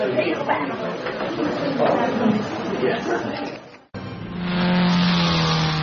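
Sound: race car engines revving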